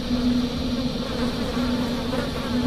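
swarm of flies buzzing

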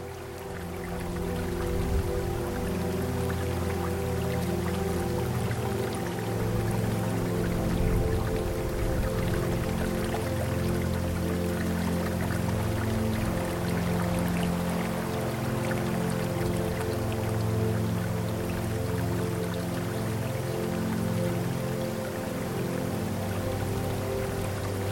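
trickling stream water

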